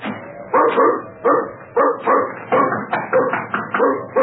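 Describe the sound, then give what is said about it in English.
A dog barks over and over in a steady rhythm, about seven loud, harsh woofs in quick succession with short gaps between them. No voices accompany the barking. “Get away, dog.”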